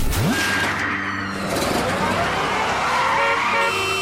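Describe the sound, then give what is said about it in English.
Busy road traffic fills the scene with a steady engine roar, while car horns toot and blare repeatedly over the top, and a vehicle revs up sharply near the start. “I'm going to stop all this traffic right here and now.”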